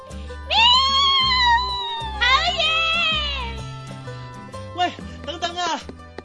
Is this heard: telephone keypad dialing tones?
no